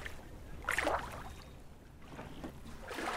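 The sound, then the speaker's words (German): A rowing boat with five women aboard moving off from a jetty on the Großer Wannsee as oars dip and pull through water, with a few splashy, swishing strokes at an uneven pace over a steady watery background, with no one talking. “Dann greift die Frauschaft hochmotiviert in die Ruder und es geht ab auf den Wannsee.”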